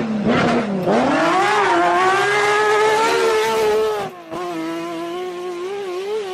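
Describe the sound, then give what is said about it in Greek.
A Lancia Stratos sports car engine revs hard, pitch dipping then climbing steadily, with a brief drop near the end before the loud growl picks back up. No talking. “Άλλο εκπληκτικό αυτοκίνητο, από το 1966, νομίζω που κάνει τη διαφορά, ήταν η Λάντσια Στράτος.”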